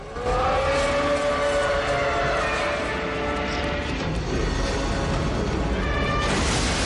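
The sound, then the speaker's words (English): Godzilla, in his death throes under suspension cables draped across his body in pouring rain, lets out a long, loud, anguished wail, his harmonic cry sustained over a dense rumbling roar for several seconds, with no talking. “Godzilla writhes and wails under the suspension cables draped across his body.”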